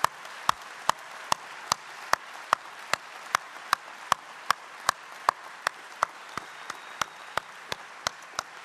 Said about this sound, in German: Nehmt etwas mit von diesem Geschenk Gottes, 27 Mal Jumiko, ich glaube, einen ganz großen Applaus für alle, die das möglich gemacht haben, hier in der Messe, alle Ehrenamtlichen.